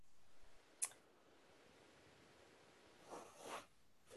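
Faint keyboard typing: one sharp tap, a quiet pause, then a couple of soft clattering bursts of keystrokes. No voices, just low background hiss.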